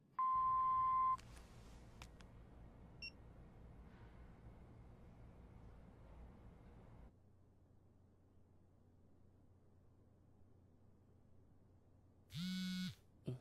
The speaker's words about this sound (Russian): К сожалению, я не могу подойти к телефону. Оставьте ваше сообщение после звукового сигнала.